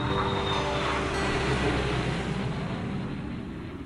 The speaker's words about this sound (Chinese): 你听到了飞机起飞的声音